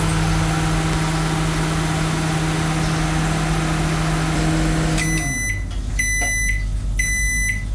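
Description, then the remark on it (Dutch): A microwave oven hums steadily for about five seconds, then shuts off and gives three loud, high beeps spaced about a second apart. No one speaks. “Nee, wij doen het niet met de magnetron.”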